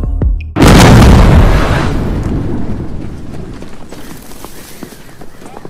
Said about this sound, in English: That's good, but the explosion needs to be bigger. There needs to be more fire.